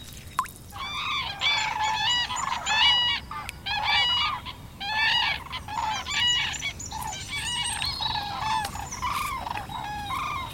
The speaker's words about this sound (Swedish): I kväll flög två tranor här ovanför.